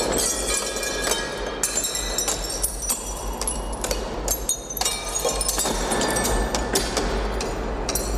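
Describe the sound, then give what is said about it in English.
Window glass shatters and tinkles over and over, a dense run of sharp crashes and bright clinks with scattered heavier thuds, fairly loud throughout, with no voices. “We're going to use very sophisticated computer algorithms to actually have the computers somehow model or learn the sound of windows breaking, and then we can put that in the device of our customers.”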